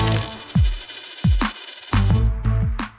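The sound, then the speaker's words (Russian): Coins jingle and clink in a series of bright metallic strikes, each landing with a low, descending boom, building into a quicker cluster toward the end. No voices. It is the money sound of the program Koshelek. “Звон денег в каждой новости.”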